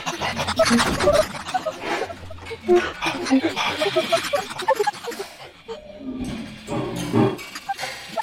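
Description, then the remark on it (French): Dog barks warped and processed into strange voice-like words and voices, a dense, continuous stream of growly, speech-like bursts with shifting pitch, loud throughout. “J'ai obtenu des mots et des voix à partir de chiens qui aboient.”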